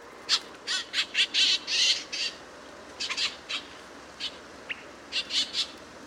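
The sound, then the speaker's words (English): A series of short, harsh gray jay calls in quick bursts, some clustered in rapid runs, others spaced apart, against a quiet outdoor background. “And unlike most other birds that nest in spring and summer, gray jays spend that time caching food for the next winter.”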